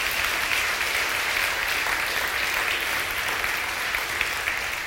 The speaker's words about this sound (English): Thank you so much. I think you should give everybody a wee round of applause for reading so well.